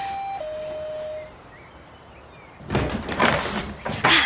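A two-note ding-dong doorbell chimes, and after a short pause a door opens with a broad, rustling scrape and clatter close by.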